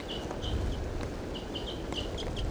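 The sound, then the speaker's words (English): A wild female bird gives a series of short, high-pitched calls, some in quick pairs, repeating over a steady low rumble of background noise, with no voices. “This wild female starting to call.”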